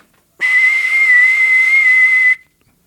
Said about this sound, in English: There's a whistle in the tooth. You blow it, you see the future.